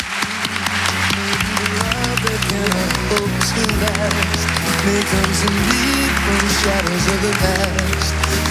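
Steady, loud applause from an audience, dense clapping that continues throughout, with music playing underneath and a faint crowd murmur mixed in.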